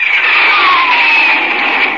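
A Republic Thunderjet jet plane on a test flight streaks past with a loud, steady rushing roar, a thin whine sliding gradually downward in pitch through it, sustained for about two seconds with no voices.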